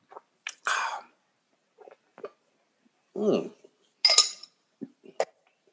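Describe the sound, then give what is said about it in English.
Someone gulps down a glass of whisky: a few short, scattered swallowing noises and sharp breathy exhales separated by brief silences, with no talking. “I'm going to go ahead and down it because it's so fucking delicious, actually.”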